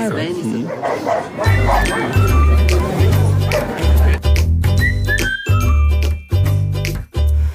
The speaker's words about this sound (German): Guck mal, irgendwo streiten sich 2 Hunde.